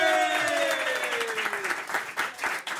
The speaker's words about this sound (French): On les applaudit. Bravo.